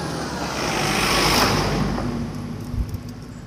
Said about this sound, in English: I think this is the lorry coming with the digger on the back.